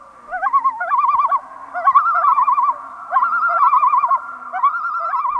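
Common loons calling on a northern lake, loud, wavering tremolo cries repeated in several overlapping bursts, ringing out clearly with no talking.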